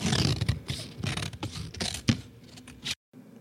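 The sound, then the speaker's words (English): Sharp scissors slice through heavy paper in a run of crisp, crunchy snips and rasping scrapes, fairly loud and irregular, ending abruptly in a brief silence before a faint hum. “Heavy paper being cut with sharp scissors.”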